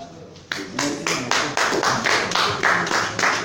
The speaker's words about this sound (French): Chez les journalistes, on n'applaudit pas toujours, mais bon, on a forcé aujourd'hui.